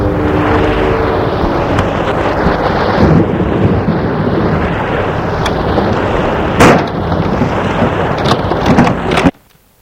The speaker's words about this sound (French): Que fais-tu dans ce lit sans bouger, alors que le vent, la pluie entrent dans la chambre?